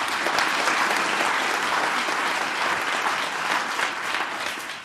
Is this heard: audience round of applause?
yes